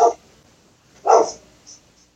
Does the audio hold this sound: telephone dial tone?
no